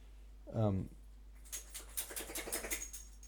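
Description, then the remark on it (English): A Shar Pei dog that has just come into the room gives a brief, descending whine-like groan while looking at the speaker, then snuffles in a quick run of breathy, noisy sniffs that build to a moderate loudness over a couple of seconds. “It's looking at me and snuffling, and I don't know what it means.”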